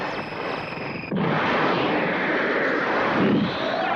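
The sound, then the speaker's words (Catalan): A steady engine drone with a faint whine from an aircraft that is not the latest model but has a good engine hums along, then abruptly swells into a louder, rushing roar that holds constant to the end, with no voices. “Aquest aparell no és de l'últim crit, però té un bon motor, eh?”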